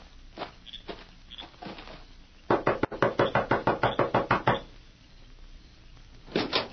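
A loud, steady run of about a dozen sharp knocks on the wooden door of a shack, evenly spaced and rapid, with a few softer scattered thumps before and after and no talking.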